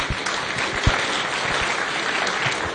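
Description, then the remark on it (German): An audience at a church service claps together after an announcement inviting everyone to a shared meal, a steady, dense burst of applause, many hands blending into a continuous patter at moderate loudness, holding evenly for a few seconds with no voices standing out. “Ja, nicht nur klatschen, auch hingehen, ne?”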